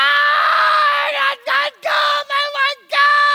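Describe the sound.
A child screams loudly and shrilly in a tantrum after being refused a pack of gum, one long sustained wail breaking into several short gasping bursts before rising again, piercing with no talking.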